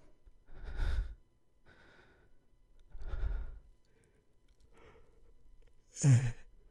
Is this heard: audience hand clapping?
no